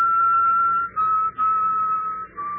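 Someone whistles the mournful strains of a funeral march: long sustained notes that shift gently in pitch, broken by a few short breaths, over a low background hum.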